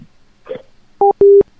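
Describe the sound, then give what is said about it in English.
A soft clatter like a phone being hung up, then two loud, steady electronic beeps of a telephone busy signal, one short and one longer. No one speaks. “See? They just hang up.”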